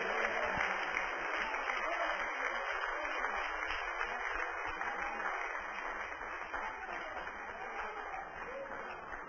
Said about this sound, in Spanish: ¡Un aplauso a tu Dios en esta noche!